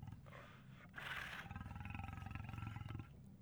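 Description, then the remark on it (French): A tiger roars, a loud burst that rolls into a rough, pulsing growl lasting a couple of seconds before easing off, with no other sounds around it. “Un tigre. C'est un tigre féroce.”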